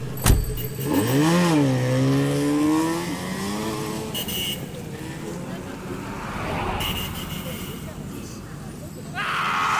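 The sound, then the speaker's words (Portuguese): A car engine revs up sharply, its pitch rising as the vehicle accelerates, then settles into a steady drone with road and rattling noise; a voice is faintly heard in the background. “Vamos, entra no carro. Rápido.”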